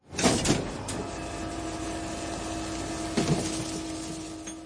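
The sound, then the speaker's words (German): A mechanical hydraulic whine hums steadily with tonal lines, opening with a clattering thump and a second clunk near the end, as a garbage truck's two gripping arms raise a wheeled bin up to the large opening at the back of the truck to tip the rubbish inside. “Jetzt heben zwei Greifarme die Tonne hoch bis zum großen Loch hinten am Müllauto.”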